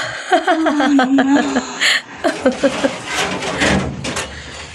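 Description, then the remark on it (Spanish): A helicopter door closes with a brief, noisy scrape and thud, right after someone chuckles and makes short voiced sounds. “Calimán cierra la puerta y oprime el botón que pone de nuevo en marcha la hélice”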